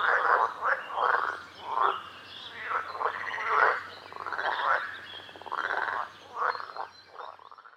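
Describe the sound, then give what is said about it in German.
A chorus of frogs croaking on the shore at the water's edge in steady, repeated bursts, moderately loud, with their calls overlapping throughout and no one speaking. “Im Sommer sind sie dann so groß, dass sie an Land gehen können. Dann hörst du sie am Ufer quaken.”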